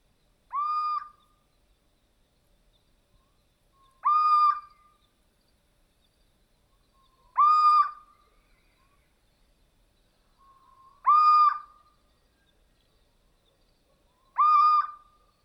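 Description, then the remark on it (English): A chubby little owl perched on a tree branch, looking around, gives five plaintive, mewing calls, each a short rising whine repeated every few seconds, clear against an otherwise quiet background with no talking. “A chubby and lonely little owl is perched on another tree's branch.”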